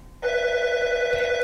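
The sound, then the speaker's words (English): A telephone rings with an incoming call, starting abruptly after a short quiet moment and holding a steady, bright, buzzy electronic tone with rich overtones until the end. No one speaks. “Well, we can hear a phone ringing.”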